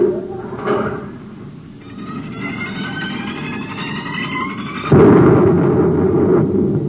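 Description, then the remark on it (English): A deep, continuous roaring rumble with hissing, grinding overtones, swelling suddenly into a louder explosive blast near the end, as a volcano erupts after the top of its crater is blasted off by a gunshot. No one speaks. “You blasted the top off the crater. The volcano. It's erupting.”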